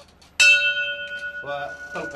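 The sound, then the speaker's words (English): A racetrack starter's bell, rung by the race announcer at a horse race track in Iraq, gives one sharp, loud strike and then rings on with a clear sustained tone while muffled voices start talking over the fading ring. “With the last puff at his cigarette, he flips a switch on a vintage amplifier, picks up his microphone, and reaches for the starter's bell.”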